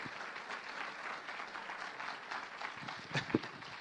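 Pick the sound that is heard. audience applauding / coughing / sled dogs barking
audience applauding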